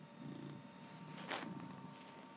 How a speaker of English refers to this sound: He's just purring at you instead.